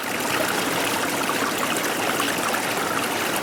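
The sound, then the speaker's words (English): A steady stream of water flows and trickles continuously, a broad, even rushing sound with light gurgling detail, constant throughout with no voices. “Water.”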